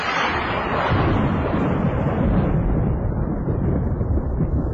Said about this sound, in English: Proving at times that half a thunderclap is better than nothing.